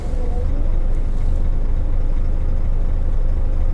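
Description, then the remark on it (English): A truck engine idles steadily, a continuous low, throbbing rumble that holds at an even level throughout with no voices; the truck has a fifth wheel lock. “Stop the engine, get out, and carry out my walk around checks.”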